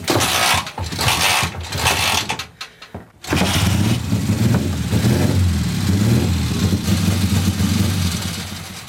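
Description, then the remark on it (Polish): The engine of a 1938 vehicle, about 80 years old, registered as a historic vehicle and not started for a long time, cranks with rough, sputtering mechanical bursts, pauses briefly, then catches and settles into a steady, loud idle with a low throbbing rumble. “Nie ma tutaj na razie takiego u nas na naszym terenie, no, bo to 80 lat ma. 1938 roku. Uruchomimy? To to dawno było uruchomiane, bo nie było potrzeby.”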